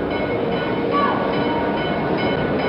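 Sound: train arriving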